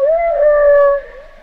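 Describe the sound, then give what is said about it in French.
A single loud, drawn-out whale call, a smooth tonal moan with clear overtones that rises slightly, wavers, then dips and fades, with no voices present. “Sincèrement, je sais plus d'où vient le son. Si c'est les sons de, si c'est des vocalises de baleine, ou si c'est des pré-enregistrements.”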